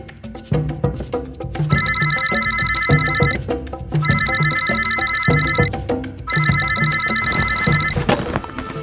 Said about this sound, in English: The ringing of the cell phone had startled